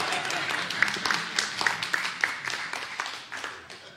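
A small group claps steadily for a few seconds, a dense patter of hands at moderate volume that stays even throughout, with faint murmuring mixed in.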